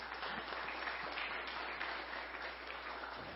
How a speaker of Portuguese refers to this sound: Colégio Doutor Genserico, tá de parabéns também, e eu peço uma salva de palmas, gente, tem que ficar registrado.